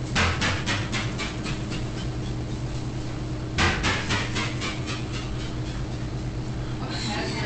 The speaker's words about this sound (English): Hear that sound? She's slamming the cabinet doors in the kitchen. That's what it sounds like when it goes through the hidden trigger.